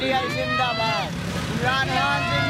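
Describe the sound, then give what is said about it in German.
A loud, steady roar of car and motorcycle engines from a night-time convoy in Islamabad, Pakistan, with young men crammed into cars and three to a motorcycle waving green-red flags, and supporters chanting and shouting in rising and falling calls throughout, the whole scene dense and unbroken. “Ein Autokorso mitten in der Nacht in Islamabad.”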